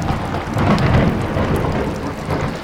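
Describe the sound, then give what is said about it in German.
A wild, heavy thunderstorm over a pond: a deep, sustained rumble of thunder rolls over steady, dense rain, loud throughout, with no voices. “Einige Male gab es wilde, heftige Gewitter.”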